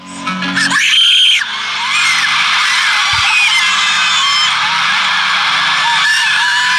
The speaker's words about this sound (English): Here's the audio of my daughter screaming.